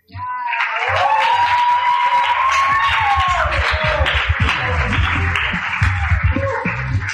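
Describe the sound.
A crowd breaks into loud, sustained applause that sets in quickly and holds steady for several seconds, with whoops and high cheering voices rising above the dense clapping.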